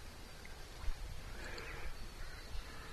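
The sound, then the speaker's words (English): Bird calls, a few brief caws, rise out of a steady outdoor hiss of wind in the trees and a low rumble. No one speaks. “So in this moment, there's the sound of the birds, dog in the background, wind in the trees.”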